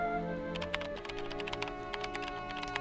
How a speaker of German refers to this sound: Schön. Da klickt's. Die Maus, die klickt, beziehungsweise die Tastatur, ne? Ich finde es schön, diese kleinen Geräusche von der kleinen Maus.